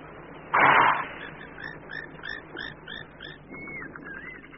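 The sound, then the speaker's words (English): A waterbuck, a shaggy-haired antelope with a white ring on its hindquarters, gives one loud, harsh, breathy alarm snort, then falls silent while a run of faint, rhythmic high chirps carries on in the background. “snorting of a herd of wildebeest is not unlike the alarm call, also a type of snort, of the waterbuck, easily recognized by his shaggy hair and the white ring on his hindquarters.”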